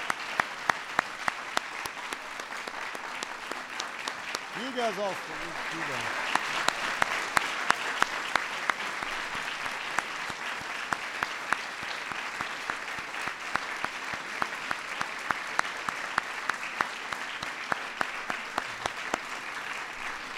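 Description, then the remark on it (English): Sustained applause for honorees from a crowd at the White House fills the whole stretch, dense and steady with sharp individual claps, while a cheer and a brief spoken remark rise over it early on. “Let's give our honorees one more big round of applause.”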